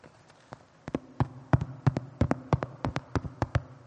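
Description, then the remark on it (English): Someone knocks on a door in a long, insistent series of sharp raps, some in quick pairs, at an uneven pace, with no voices. “Imagine that's them now at the door.”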